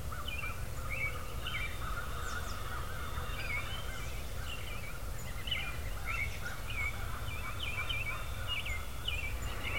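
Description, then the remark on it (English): Wild turkey hens calling in repeated short yelps and clucks across the whole stretch, out in front of the listener near Pity Creek just after sunrise, over a steady low outdoor rumble with no talking. “Did you hear that? I got some hens out there in front of me.”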